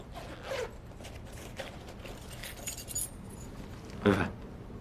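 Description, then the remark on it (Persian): A bunch of storeroom keys jangles in a few short, scattered metallic bursts, ending with a louder rattle, against a quiet background. “کلیدا رو بذار، من خودم یه سر میخوام برم انبار، خیلی وقت نرفتم.”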